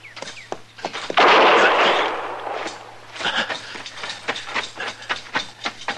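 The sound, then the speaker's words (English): A loud gunshot, with which Glick hits Chester in the arm, bursts out with a broad crack and hissing decay, surrounded by a rapid series of sharp knocks and scuffling thumps; no one speaks. “she slipped him a gun”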